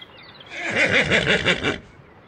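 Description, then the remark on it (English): A horse in the countryside whinnies once, a loud, quavering neigh that warbles up and down for just over a second before fading, heard alone with no talking. “The horse isn't very happy.”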